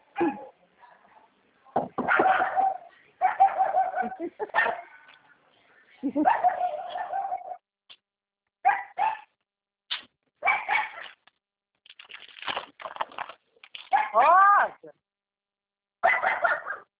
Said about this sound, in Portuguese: Se eu bater aqui, sai fora que tem cachorro.